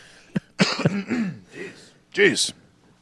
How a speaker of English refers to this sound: Sorry, I keep clearing my throat. I played a rock show last night.